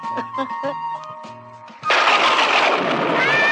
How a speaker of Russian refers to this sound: Ну и дождь.